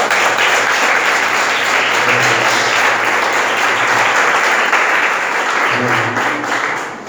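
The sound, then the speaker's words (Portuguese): A church audience applauds the Lord after a prayer, clapping steadily in sustained, dense applause for several seconds, loud and even throughout before tapering slightly at the end, with faint voices murmuring underneath. “Dê uma salva de palmas ao Senhor, irmãos.”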